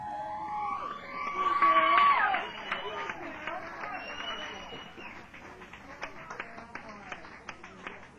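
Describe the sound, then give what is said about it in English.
An audience erupts in loud screams and cheering for the Sonic Patrol at the opening of a show for a couple of seconds, then keeps up steady, scattered clapping that gradually thins out, heard from within a large, echoing crowd. “Could I get everybody to put your hands together and go ahead and give one big loud scream and clap for the Sonic Patrol.”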